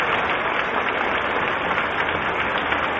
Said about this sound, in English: So as the applause continues, it is our surmise that the presidential party is making its appearance. I am surprised we do not hear the band.